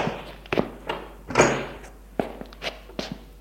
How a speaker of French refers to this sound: qu'elle frappe à sa porte.